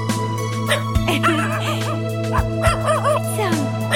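A dog gives a few short barks and yips mixed with high, wavering whimpers over a steady low hum in the background.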